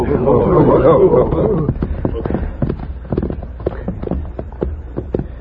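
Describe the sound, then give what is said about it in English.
Horses' hooves thud unevenly as the horses are urged into a dense thicket beside a creek, a scatter of sharp clomps and rustles following a brief voice-like sound at the start. “Arriving at the stream, he urged their horses into a dense thicket where they would be effectively concealed.”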